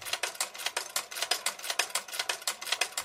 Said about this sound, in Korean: 야디의 옷수선 가게. 가게 문을 열고 들어가니 쉼없이 움직이는 재봉틀 소리가 반갑게 맞아줍니다.